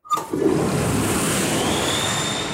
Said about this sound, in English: Introducing the Super Flusher. This baby roars like a jet engine, and it sucks down anything you put in it.